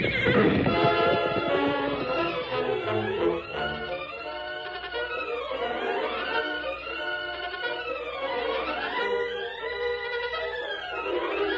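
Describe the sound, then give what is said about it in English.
A horse neighs and whinnies repeatedly, loud, with long rising and falling cries over about eleven seconds, while hooves clatter underneath near the start, as a bucking horse breaks away in a Lone Ranger radio drama. No one speaks. “That horse is gone from him.”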